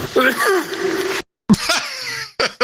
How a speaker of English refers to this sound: Did he sneeze there? Was that what that was? No, it was a cough. Oh, sounded like a sneeze.